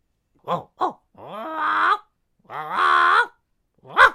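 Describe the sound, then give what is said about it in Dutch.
A bird named Polly mimics a dog's bark: two quick yelps, then two longer, drawn-out howling calls and a final short bark, loud, with no talking. “Ja, dat is geblaf. Het is een vogel.”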